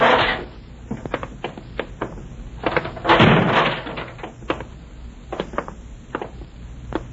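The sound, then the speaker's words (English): A heavy fire door in a damp basement swings open with a loud thud and clatter of its latch, followed by scattered footsteps and knocks before the door bangs shut again. “In here. Through this fire door.”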